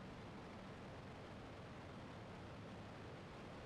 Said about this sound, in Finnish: Meren aallot, hengitys.